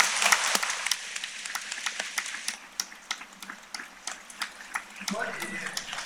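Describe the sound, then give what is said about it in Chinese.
An audience at a talk by a teacher applauds after being asked to lower their raised hands: a dense crackle of many hands clapping at once with sharper individual claps standing out, holding at a moderate level throughout, with a brief voice rising under it near the end. “手放下来，鼓掌吧。”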